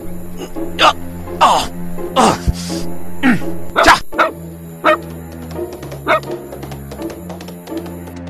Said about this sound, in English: What dog is this? He came with the master.